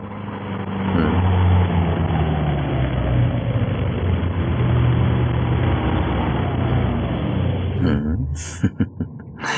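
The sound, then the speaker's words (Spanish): A car engine rumbles, its low drone steady and slowly shifting pitch as the vehicle pulls up, followed near the end by a few brief clunks and knocks. “Ahí está su carro.”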